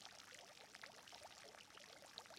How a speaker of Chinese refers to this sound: 这里是气泡池，具有缓解疲劳、增强精力的作用。